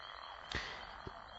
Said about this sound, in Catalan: Canten la granota i el gripau, la legió innombrable d'insectes, els ocells que volen o salten de branca en branca.